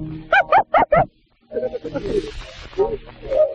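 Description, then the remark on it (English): A cat hisses after being kicked, a drawn-out, raspy hiss lasting about two seconds, preceded by four short, sharp yowling bursts in quick succession. Fairly loud. “I will kick the cat just for spite”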